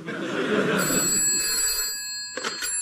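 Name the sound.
telephone ringing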